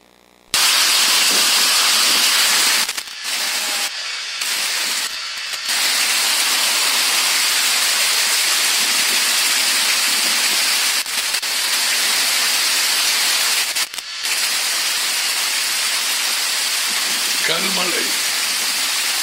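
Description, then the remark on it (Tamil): Hail pours down in Goa, India, in a dense, continuous, loud roar of tiny impacts, broken only by a few brief dips, with a faint voice briefly rising near the end. “3 நாளைக்கு முதல்ல கோவான்ற இடத்திலே, இந்தியா கல்மழை பெய்திருக்குது.”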